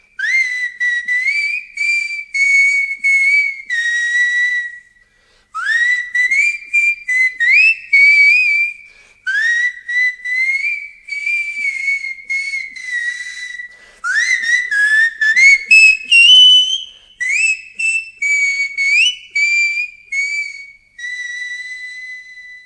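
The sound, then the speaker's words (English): A bright fife plays a lively melody of quick repeated notes and short phrases, with brief pauses between passages, clear with no voices. “Or to play an actual tune.”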